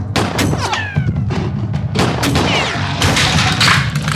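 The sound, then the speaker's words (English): Several loud, sharp gunshots fire in an irregular burst at a case of unbreakable glass, each crack followed by bright ringing impacts and rattling. No one speaks. “Is it bulletproof? Rosie, I am loving your flagrant disregard for responsible gun ownership.”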